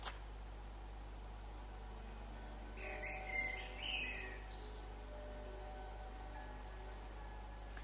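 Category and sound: bird, common kingfisher call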